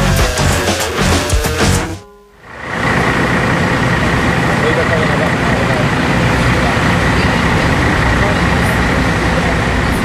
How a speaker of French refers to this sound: Alors là, on se trouve sur le vieux port à Marseille. Sur notre gauche, il y a des bateaux qui trempent dans le port. Et sur notre droite, il y a une série de cars de voyage, avec devant des touristes qui portent un petit badge jaune